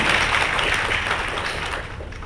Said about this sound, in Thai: ขอเสียงปรบมือต้อนรับท่านอาจารย์ปรเมศวร์อินทรชุมนุมค่ะ